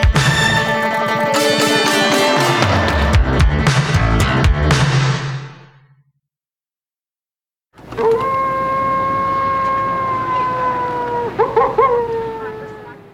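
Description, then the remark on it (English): A short burst of music fades to silence, then a wolf's long, steady howl rises in, holding a drawn-out tone that slowly sinks and wavers near the end. “Everybody likes the wolf.”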